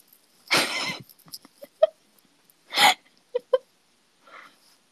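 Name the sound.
hiccups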